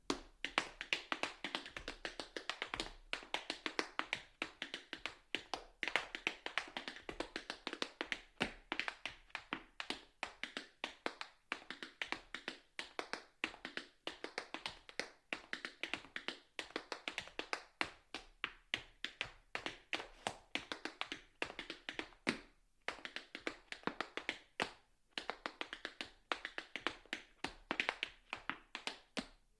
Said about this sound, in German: Willkommen zu einem Kunstradio über Schritt- und Trittgeräusche, zu einem Kunstradio über die Fortbewegung auf zwei Füßen, über getanzte Schritte, über computergenerierte Schrittfolgen und über den Stepptanz.